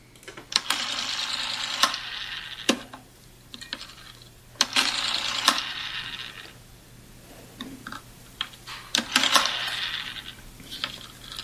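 A rotary dial telephone is turned and whirs back three times, each return a rapid mechanical ratcheting with sharp clicks, separated by short pauses. No one speaks.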